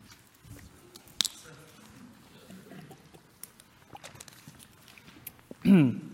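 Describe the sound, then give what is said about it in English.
Sermon water is poured and sipped from a glass: a sharp clink, soft rustling and faint splashy handling noises, then a louder burst of slurping or gulping near the end. “And I'm going to steal some sermon water, sorry.”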